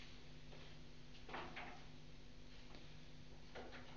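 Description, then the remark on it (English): A door opens with a soft latch click and a short rustling creak, then another faint click follows a couple of seconds later, all quiet against a steady low hum. “My attention went out there when Reggie opened the door.”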